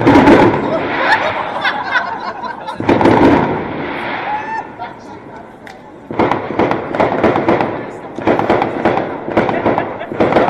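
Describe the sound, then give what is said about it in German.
Fireworks, set off while it is still light, go off in loud, repeated bursts of bangs and sharp crackles, with a roaring wash of noise between them and a longer run of rapid popping toward the end. “Es ist nur so ein Pseudo-Feuerwerk.”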